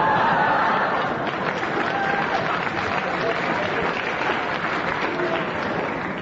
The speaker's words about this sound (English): The audience are not now my friends anymore. They heartily applauded, and the only thing I can do is they applauded so loudly, I have to agree.